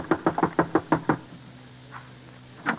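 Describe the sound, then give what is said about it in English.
A quick run of about eight firm knocks on the front door of an old-timer's shack, evenly paced, followed by a quiet pause with a low hum and two softer, isolated knocks. “So, just as I'd always done, I left Johnny in charge, rode down to the old-timer's shack, and knocked on his front door.”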